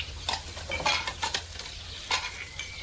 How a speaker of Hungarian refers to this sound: Drága, hozza csak oda ezeket a tányérokat.